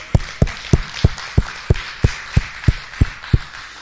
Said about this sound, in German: Komm, wir geben Gott mal einen Applaus.